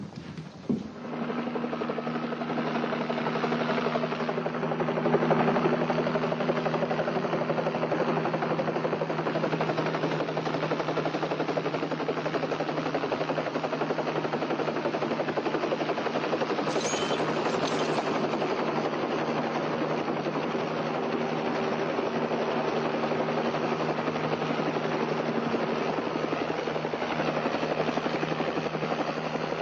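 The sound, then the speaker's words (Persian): A helicopter drones steadily overhead, its rotor thumping in a continuous loud beat with a whining engine underneath, holding constant for the whole stretch. “اون کیسه‌های گوگرد رو بذاری تو یک هلیکوپتر.”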